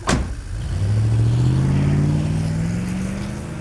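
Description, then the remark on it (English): A sharp thump, then a truck engine revs and accelerates away, its steady rising hum staying loud before easing off slightly at the end. “He was already on the road when I got to my front door.”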